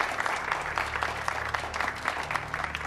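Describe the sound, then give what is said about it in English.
Steady applause from an appreciative crowd as Taylor, Suvorov and Dahlia Hassan line up for the press, a dense patter of many hands clapping continuously at moderate volume throughout, with a low background hum and no voices rising above it. “Taylor, Suvorov, and Dahlia Hassan line up for the press and an appreciative crowd.”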